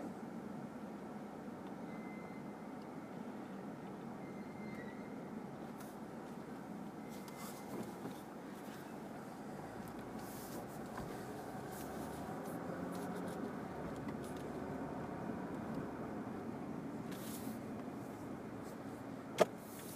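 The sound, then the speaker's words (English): A bus engine idles in a steady, low rumble that holds at the same level for the whole stretch, with a few faint rattles and one sharp click near the end. “Out in front of this bus, because fuck it. The bus will stop.”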